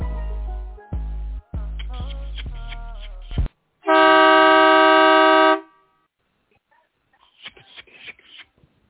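A single long, loud blast of a vehicle horn, steady and buzzy in pitch, lasting almost two seconds after a burst of music cuts off; faint voices follow.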